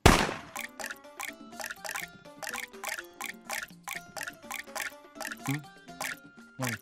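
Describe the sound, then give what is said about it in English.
A steady series of water drops fall from two faucets, about two dozen bright, plinking plops in a quick, slightly uneven rhythm, each with a short ringing tone. No voices. “Which faucet has dropped more water?”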